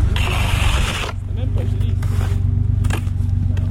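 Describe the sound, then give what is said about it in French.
A rough, hissing scrape across a car surface for about a second as snow is cleared off the car, then a steady low engine idle rumbles on with a few faint knocks and brushes. “Ouais, je déneige la voiture.”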